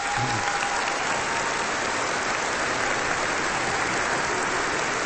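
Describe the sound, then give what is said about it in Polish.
Loud, sustained applause from a large crowd fills the whole stretch, a dense even wash of clapping with no pauses, steady throughout, as attendees of a gathering with Bishop Antoni, priests and nuns thank one another. “Dziękuję księdzu biskupowi Antoniemu, księdzu prałatowi Stanisławowi, siostrom zakonnym, kapłanom, wam kochani, i sobie nawzajem podziękujmy gorącymi oklaskami.”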